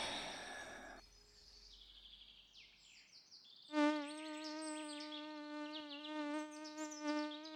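A thin, whining buzz of mosquitoes swells in after a brief rush of wind-like noise, then drones steadily for several seconds with slight wavers in pitch as they swirl around the hands and fly toward the face, outdoors among grass, birch and conifer forest by a gravel road on a sunny, windy day.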